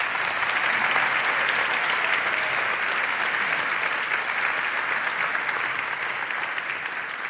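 A crowd claps steadily and loudly for several seconds, applauding children who did a great job, a dense, even wash of applause that holds its level throughout and only tapers slightly at the end, with no talking over it.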